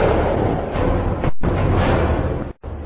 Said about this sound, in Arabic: وهذا المدفع يقصف مسجد بلال بن رباح. وهنا القصف يطال عبرة والمبنى الذي يحتوي مسجد بلال بن رباح.